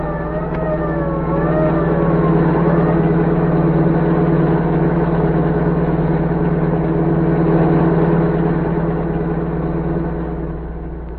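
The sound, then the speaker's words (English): The engine of a general's car roars steadily at high speed as the car speeds toward the border, a loud continuous drone, with faint wailing siren tones rising and falling near the start. “As the general's car sped toward the border, orders cracked out.”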